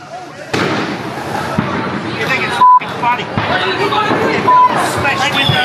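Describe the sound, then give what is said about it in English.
Fireworks and firecrackers bang and crackle continuously in a dense, chaotic barrage, with sharp pops and whistles rising over a noisy crowd chattering and shouting throughout, on Territory Day (Cracker Night) in Darwin, Northern Territory, Australia. “It's a tradition that began disappearing across the nation 40 years ago, except for holdouts such as the Northern Territory, where for one night every year, fireworks are legal and all hell breaks loose,”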